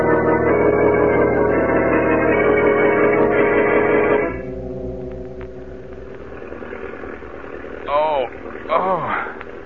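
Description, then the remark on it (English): A loud airplane engine roars with a steady droning tone, heard from inside the plane, then drops to a quieter, lower hum halfway through while brief voices break in near the end. “What's that roaring noise? An engine. An airplane engine.”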